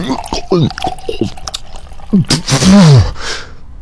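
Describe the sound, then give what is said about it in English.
Scotch splashes out in a brief, hissing pour lasting about a second, under strained voices and a low groan. “Pour some scotch on it!”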